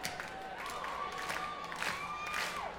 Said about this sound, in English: You get a little soul clap going in here, like this.